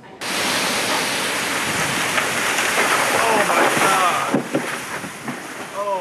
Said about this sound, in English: a large tree uprooted due to the heavy wind and rain. Scary moments in Mooresville when a tree snapped close to a home.